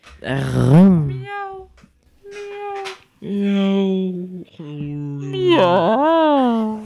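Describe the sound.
A voice imitates a cat, giving a series of five or six drawn-out, wavering meows in close succession, fairly loud, with short pauses between them.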